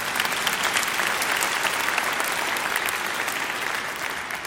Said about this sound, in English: So what he says, yes, you can go ahead and clap.